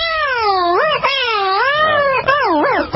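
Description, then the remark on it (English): An inebriated cat yowls in long, drawn-out cries whose pitch swoops up and down unsteadily, loud, continuing without pause for the whole stretch. “And what would an inebriated cat sound like? Here you go.”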